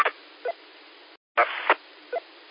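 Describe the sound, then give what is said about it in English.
A steady hiss of radio static carries a few short, bright APRS packet data chirps without a leader tone, resembling a Motorola data chirp, in quick bursts, broken by a brief moment of silence before the static resumes with another chirp. “Well, an APRS packet, because it doesn't have the leader. Sounds like a Motorola data chirp.”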